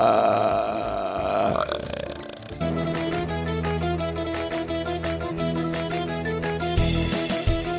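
burping

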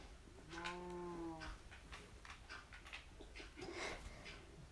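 cows mooing

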